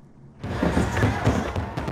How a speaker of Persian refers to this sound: هیچ چیز دیگر مانند این آتشبازی های 4 جولای امریکاییان را با هم یک جا ساختن نمیتواند و این لحظه بازتاب دهنده اساسات دموکراتیک است که این کشور بر آن بنا نهاده شده است.